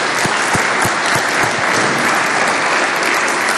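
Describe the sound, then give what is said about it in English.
A crowd claps steadily for a few seconds, applauding an Army sergeant first class for his rendition of the National Anthem; the applause is dense and loud, with a few sharper individual claps standing out near the start. “Let's give a round of applause again”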